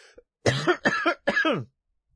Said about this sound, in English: I don't know whether I am, and I may have had it already, as you can tell. Might be able to tell from this cough, which hasn't gone away.